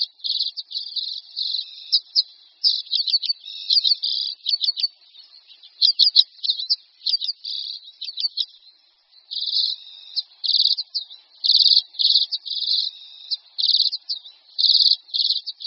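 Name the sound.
common redpoll calls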